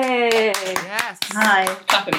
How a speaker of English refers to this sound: Woo! Yay! Yes. Hi. Clapping myself.